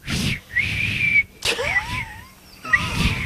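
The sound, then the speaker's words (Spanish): A person whistles a short, birdlike tune imitating the song of a red bird with a beak: a few thin, sliding notes rising and falling, broken by breathy pauses and rough airy noise. “Que no sé silbar muy bien, espera.”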